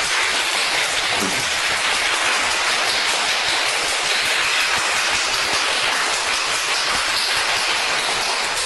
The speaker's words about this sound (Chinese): 你们的掌声在哪里啊？